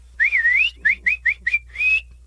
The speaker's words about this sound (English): I'm clapping, cheering, and I start whistling, like you do at a baseball game